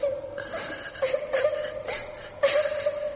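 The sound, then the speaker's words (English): A child cries in a thin, high, sustained wail with sobbing catches breaking through every second or so, faint, with no talking. “Someone crying. A child crying?”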